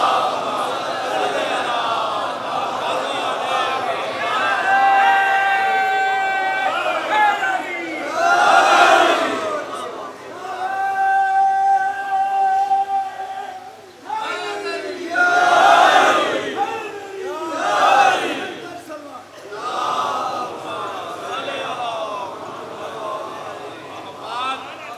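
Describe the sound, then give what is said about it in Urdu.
A large audience chants salawat together in unison at a speaker's call to recite it, a loud, sustained collective recitation that swells in repeated waves, with strong bursts of many voices rising and falling over about twenty-five seconds. “صلوات پڑھ دیجئے محمد والے.”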